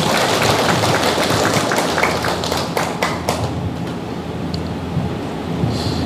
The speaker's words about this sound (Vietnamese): Xin cho một tràng vỗ tay cho câu hỏi này.